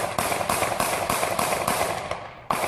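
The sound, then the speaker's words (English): A rapid string of about eight sharp, loud gunshots, fired by North Charleston police officer Michael Slager at Walter Scott and recorded on a cell phone, at a steady pace of roughly three per second, with a brief pause before the final shot. “Recorded on a cell phone as a white police officer opens fire on a Black man.”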